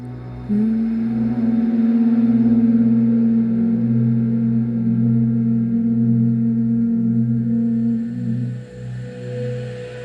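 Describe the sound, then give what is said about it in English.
A long, steady hum with lips gently closed, released on an out-breath, holds one low pitch for several seconds over a soft drone-like background with no talking. “And begin breathing love in through your nose and then gently releasing a hum on each out-breath with lips gently closed.”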